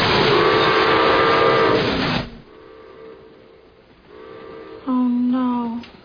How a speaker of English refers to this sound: Father's playing with his trains.